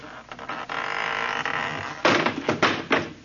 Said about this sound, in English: That door need a little tightening up, too. Fell right off.